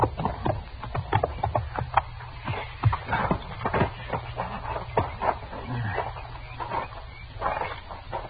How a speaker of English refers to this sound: Let's leave our horses here, huh, Chester? Yes, sir.